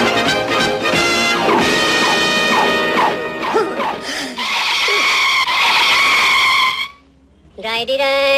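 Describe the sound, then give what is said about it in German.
An airplane, Albatros Flight 13, crash-lands with a long, loud skidding screech with squealing, wavering tones and rough crashing noise, cutting off to near silence for a moment before a ringing tone returns. “Unsinn, das war eine meiner besten Landungen.”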